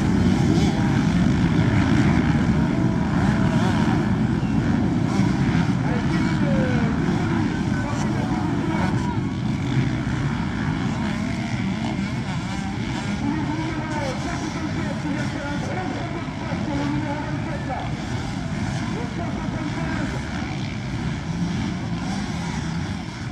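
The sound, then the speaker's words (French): Motocross motorcycle engines drone and rev continuously, a loud, dense mechanical roar with wavering pitch from several bikes, and faint indistinct voices may sit underneath; at a French motocross championship in Vinci Manœuvre, in the Valois-Mulcien area. “Comme vous pouvez entendre derrière moi, il y a des bruits de moto.”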